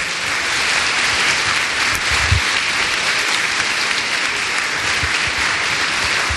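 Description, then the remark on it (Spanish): An audience at a Catholic Mass, standing and waving flags, applauds the Lord steadily, a dense, continuous wash of many hands clapping at an even loudness for several seconds, with no voices standing out above it. “Agitemos esas banderas y démosle todos un fuerte aplauso al Señor.”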